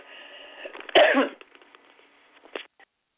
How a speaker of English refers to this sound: Okay, had a coughing jag. I'm back.